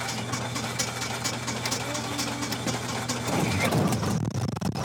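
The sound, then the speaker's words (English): A small red and white two-seat propeller plane's engine runs with a steady, low, throbbing drone, then swells into a louder, rougher roar for the last second or so. “Chad Cox is standing next to a red and white two-person plane.”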